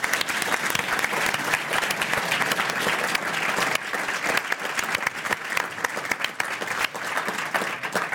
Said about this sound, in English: Hey, thank you. Round of applause.